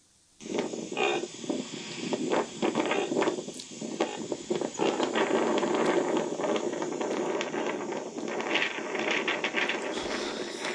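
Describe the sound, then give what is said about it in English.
A baby reindeer in the Arctic gives a honking vocalization: a rough, rapidly pulsing, ratchety grunt that runs on for about ten seconds, fairly loud, with steady wind noise behind it. “And so here's one making what's called a honking vocalization.”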